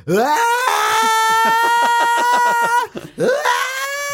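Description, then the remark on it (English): A voice imitates a scream: a loud, high, strained wail that breaks into a rapid stuttering pulse, pauses briefly, then rises into a second sustained yell. “I actually thought I was going to nail that scream.”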